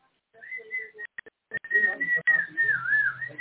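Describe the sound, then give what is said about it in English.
Someone whistles a short, wandering tune, with bright sustained notes, a brief pause and a few clicks midway, then a longer warbling phrase over faint background noise. “… just walked down the road whistling.”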